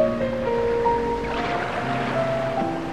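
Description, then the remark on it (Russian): Gentle ocean surf washes steadily in the background, a soft continuous hiss with a slight swell midway, blended beneath sustained, calm musical tones. “Призывный шепот прибоя снова доносится до вас.”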